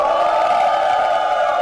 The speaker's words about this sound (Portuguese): A gente já começa com vaia. Solta vaia, solta vaia, solta vaia.